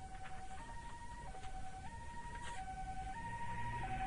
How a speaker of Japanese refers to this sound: 救急車のサイレンの音と、母さんと弟の声が、かすかに頭の片隅で聞こえていた。